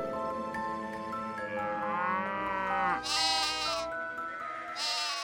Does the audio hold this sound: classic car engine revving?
no